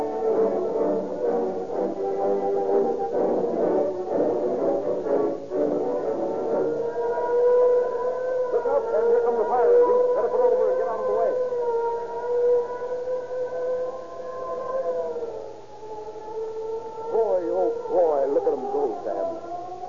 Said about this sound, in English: And follow the fire engine. Well, I guess I could keep up with them, all right.